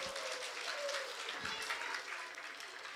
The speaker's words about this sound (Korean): 박수 한번 쳐줍시다.